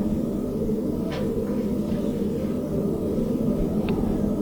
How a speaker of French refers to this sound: Le vent souffle très fort.